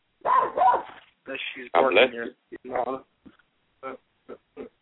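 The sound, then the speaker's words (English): A female dog barks in a string of short, throaty bursts, several grouped together at first, then a few quick single yips spaced apart toward the end, fairly loud. “She's barking here.”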